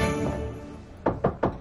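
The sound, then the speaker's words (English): Four evenly spaced, fairly firm knocks on Charles' door upstairs come in quick succession after a soft sustained musical tone fades out; no one speaks. “She knocks on Charles' door.”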